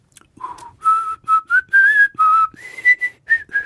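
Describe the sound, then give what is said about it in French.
A person whistles a short, lively tune imitating a singing canary named Oscar, presented as the Marseillaise: about a dozen clear notes with quick breaks between them, rising in pitch toward the end. No one speaks. “Et cette canari incroyable, il siffle le Marseillaise.”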